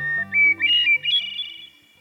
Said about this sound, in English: Many people would tell you that hearing bird song, like the one from this hermit thrush, puts them in a good mood.